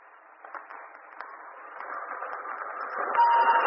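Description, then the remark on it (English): The first train on a new line pulls out of a station, its steady rumbling chug growing gradually louder, with a brief high whistle-like tone sounding near the end. No one speaks. “And finally, the first train pulled out.”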